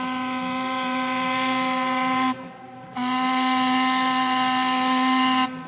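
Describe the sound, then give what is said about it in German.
The steam whistle of a steamer with more than 100-year-old technology in Flensburg, tested by its crew, gives two long, loud, steady blasts with a brief pause between them, its rich harmonic tone ringing out with a hissing edge of steam. “Die Crew des Dampfers Alexandra testet regelmäßig die mehr als 100 Jahre alte Technik. Und das auch schon mal lautstark.”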